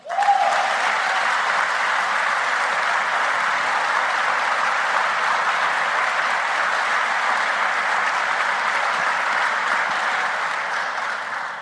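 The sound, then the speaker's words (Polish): Sustained applause from a large crowd at a master's graduation ceremony of the Warsaw School of Economics (Szkoła Główna Handlowa), a dense, steady roar of clapping that holds at an even loudness for about eleven seconds before easing slightly at the end, with no voices standing out. “Dlatego na samym wstępie chciałabym poprosić raz jeszcze o gromkie brawa dla nas wszystkich, dla waszych koleżanek i kolegów.”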